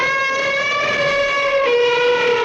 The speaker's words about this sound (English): Okay, let's hear from elephant E.